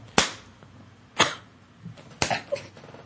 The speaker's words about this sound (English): How'd that feel? Two punches.